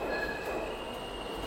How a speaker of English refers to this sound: That's the F train passing now.